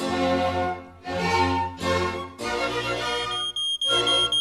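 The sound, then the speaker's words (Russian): A smoke alarm, an autonomous fire detector, beeps loudly in a rhythmic series of harsh, shrill pulses separated by brief gaps, with no voices around it. “Как вы думаете, Шерлок, кто это пищит? Никто, а что? Это АПИ.”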